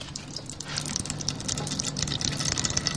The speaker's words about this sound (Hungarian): és elméletileg az edénynek, a lyukas edénynek az oldalán, akkor így is van, megindul a sötét barna színű olaj, és elkezd lecsorogni abba az edénybe, abba a piros bonyhádi edénybe, amit alá tettünk.